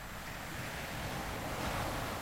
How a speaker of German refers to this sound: Ich höre das Rauschen der Wellen, wie sie kommen und gehen. Kommen und wieder gehen.